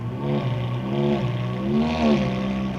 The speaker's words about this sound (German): Neben der Fahrertür prangt das unverwechselbare Symbol der exklusiven Autos. Ein kleines, schwarzes, zügelloses Pferd auf gelbem Grund. Das berühmte Cavallino Rampante. Die Fahrer lassen die Motoren kurz aufheulen.